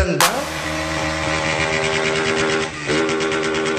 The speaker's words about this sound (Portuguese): A molecada que fica de gandaia aqui com as motos fazendo rangan dan dan dan dan dan dan dan dan.